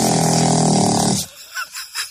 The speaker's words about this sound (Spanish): No, pero está muy bien. Está muy bien ese ronquido, porque lo puedes poner, por ejemplo, una película.